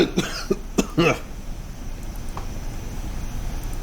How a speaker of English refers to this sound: Somebody just had a violent sneeze. Who goes there?